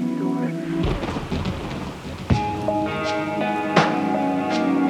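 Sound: rain falling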